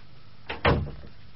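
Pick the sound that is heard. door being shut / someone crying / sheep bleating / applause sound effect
door being shut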